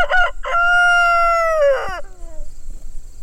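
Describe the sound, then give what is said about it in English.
A rooster named Victor crows once on a farm, loud, with a couple of choppy opening notes, a long sustained middle, and a falling, fading finish, set against quiet outdoor background. “One rooster, named Victor, comes out to strut and protect his chickens.”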